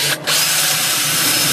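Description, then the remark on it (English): A loud power drill whines steadily, with a brief dip near the start before it bites in and grinds continuously through a lock that a locksmith is drilling open. No one speaks. “The power tools are coming out, everyone.”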